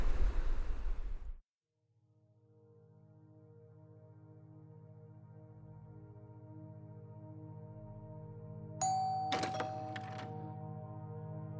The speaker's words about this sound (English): The door chime rings. A young couple, in their early 20s, walk through the door into the hair salon in Thames, New Zealand.